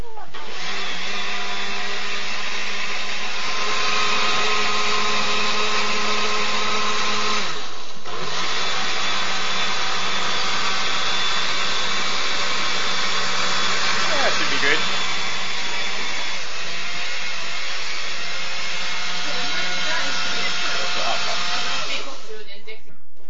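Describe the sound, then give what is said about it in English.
A blender runs with a loud, steady motorized whir and a grinding hum. It cuts out briefly, starts right back up, then runs on until it stops near the end. “if you push pulse, it's just on while you hold the button down and you just let go”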